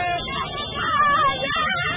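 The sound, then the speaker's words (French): A dense crowd of supporters in the streets of Dakar shouts and cheers for joy, celebrating the Lions of Teranga as 2021 African champions. Many voices blend into a loud, steady roar, with one higher, drawn-out cry rising above the din midway through. “Ou plus simplement, cri de joie.”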